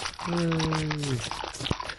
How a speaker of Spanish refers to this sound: Ah, cómo me gusta escuchar ese perrito tomando agua. Qué bárbaro. Qué bonito. Ahí está.